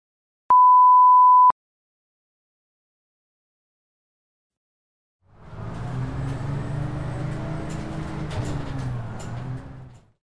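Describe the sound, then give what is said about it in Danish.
A single steady electronic beep sounds briefly, then after a pause the low, continuous engine rumble and road noise inside a bus riding home from school fades in, with faint rattles and no talking. “Du vil høre en samtale mellem Tim og Bella, mens de sidder på bussen hjem fra skole”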